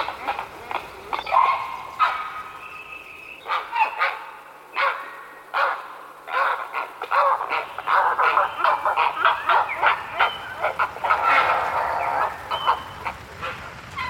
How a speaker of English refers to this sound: It is a prehistoric bird, a heron.